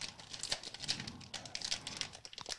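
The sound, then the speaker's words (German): Crinkly plastic snack bag of rice cracker sticks being pulled open only to the middle, a run of irregular crackles and rustles over a couple of seconds, with no voices. “Auf den Philippinen die Tüte auf.”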